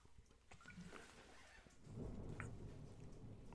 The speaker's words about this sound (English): Now the storm is getting worse.